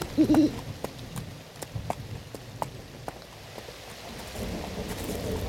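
An owl hoots a couple of times during a storm while rain pours steadily and thunder rumbles low beneath it, with scattered sharp drips and cracks throughout.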